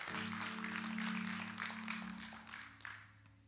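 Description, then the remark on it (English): An audience applauds for a group of children in a dense wash of overlapping claps that holds steady, then thins and tapers off toward the end, with a low sustained hum running underneath. “Let's give these kids a hand clap.”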